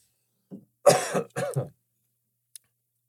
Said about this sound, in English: One of the things I thought of today is I have another cough coming on.